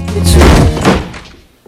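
A door is kicked open with a single heavy thump, followed by a short booming resonance that fades out over about a second.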